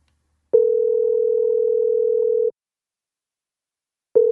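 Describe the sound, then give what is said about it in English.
A steady, clear telephone dial tone hums for about two seconds after the other person hung up the call, goes silent, then starts again at the end. It plays alone, with no voices. “Oh, she hung up.”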